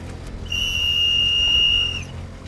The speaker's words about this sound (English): I'm going to call her in with the whistle.